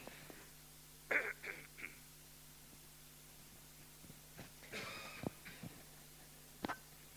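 Someone clears their throat a few times in short, raspy bursts, with quiet pauses between them and a faint hum in the background. No one speaks.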